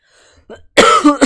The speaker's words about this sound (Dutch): Zoals je kan horen moet ik me enorm beheersen om niet te hoesten. Ik heb zo'n vervelende kriebelhoest en die wordt in de avond alleen maar erger.